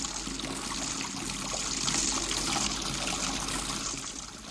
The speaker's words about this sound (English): Yes, it's a sound we hear every day, water running from a tap. But not everyone can summon water with a twist of the wrist.